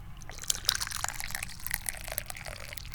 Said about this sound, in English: Let's pour some tea.